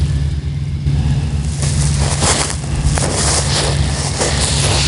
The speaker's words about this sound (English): Man, that wind is stalling that disc out.